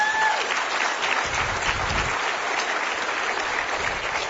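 A crowd at an annual picking contest claps steadily and loudly for the people who set it up, a dense wash of overlapping hand claps that holds at a constant level for several seconds with no voices standing out.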